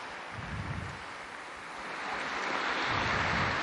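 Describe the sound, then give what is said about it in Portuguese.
A large crowd applauds steadily for the new Blessed Pauline Jaricot, a dense, continuous wash of clapping that swells slightly toward the end, with no voices standing out. “Um aplauso para a nova Beata Paulina Jaricó.”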